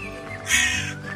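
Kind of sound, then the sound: bird, crows cawing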